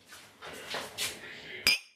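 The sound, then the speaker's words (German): A single bright clink of drinking glasses touching in a toast with a freshly made drink before cooking a meal, ringing briefly after the strike, preceded by soft shuffling and handling noises. “Prost. Prost.”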